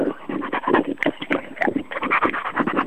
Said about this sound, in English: Lapping up a can of Jim Beam and cola you've poured into a saucer for yourself. Was it a dog? Was it a yellow Labrador? No, it's a German Shepherd.